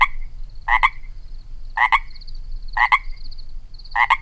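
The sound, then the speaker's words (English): A Pacific chorus tree frog gives repeated two-part ribbit calls, about one per second, loud, with a faint higher trill between calls and low background rumble. “The Pacific chorus tree frog makes its ribbiting sound mostly at night and during breeding”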